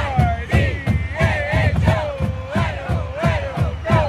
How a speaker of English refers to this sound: The University of Idaho football team, the Vandals, is playing its last home game of the season. The marching band plays the fight song.